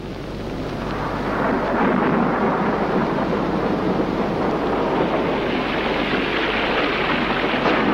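A thunderstorm beginning rumbles steadily in a dense, continuous roar that swells up over the first second or two and then holds loud and unbroken, with no voices.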